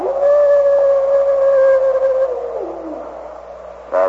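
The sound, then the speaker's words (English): A single long gray wolf howl holds one steady mournful pitch for about two seconds, then slides downward and fades, with a brief new cry starting at the very end. “Another of those gray devils. They ever bunched together in wolf pack, Chief Croswell.”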